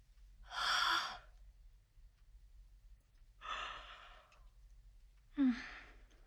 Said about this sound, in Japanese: あくびしちゃった。もう笑わないで、もっと恥ずかしくなるでしょ。